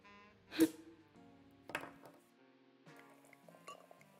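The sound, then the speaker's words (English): Champagne poured from a genuine Chouet champagne bottle into glasses: a sharp glassy clink, then a steady gurgling pour whose tone shifts in steps, punctuated by a few softer clinks of glass. No one speaks. “A genuine Chouet champagne bottle. Let me pour us some.”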